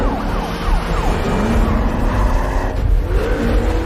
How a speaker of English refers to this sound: guns the big Audi, slides it through 180 degrees and speeds out of the square with 2 police cars in pursuit.